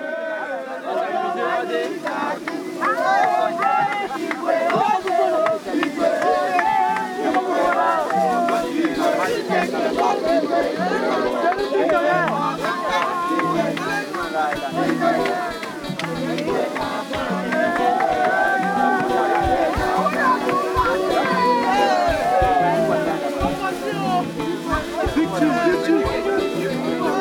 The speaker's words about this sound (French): on arrivait, il y avait Lampedusa en arrière-plan, le coucher de soleil, les dauphins, et puis, puis un moment de joie et de danse et de chant sur le pont du bateau. C'était vraiment très beau. Je me suis permis de sortir le micro et d'enregistrer.